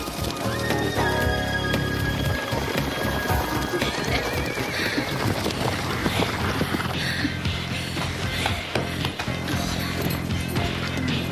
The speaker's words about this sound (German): Fröhlich ritten die drei Mädchen los.